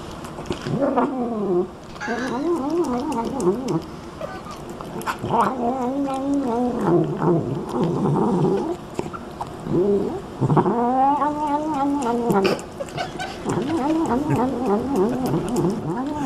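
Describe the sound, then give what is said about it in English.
A cat eats sweet corn while making continuous, wavering, drawn-out vocal noises, a loud stream of moaning, yowling murmurs with brief pauses, no talking in between. “here's a cat, Mike, also food? Eating sweet corn.”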